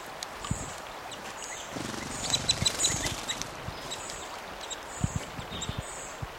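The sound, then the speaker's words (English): Several birds fighting and interacting in a low tree give short, high chirps and squeaky calls in scattered bursts, mixed with soft rustling and low thumps against a steady background hiss. “These birds are fighting and interacting in this low tree.”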